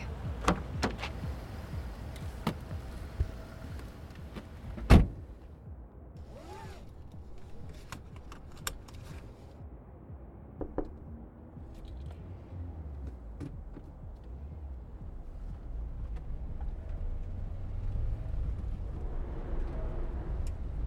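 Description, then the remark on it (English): A car door clunks open with a sharp thud, followed by scattered clicks and rustles, then a low engine rumble builds as the car, driven by a personal driver, pulls away and drives steadily. “This is my car, with my own personal driver.”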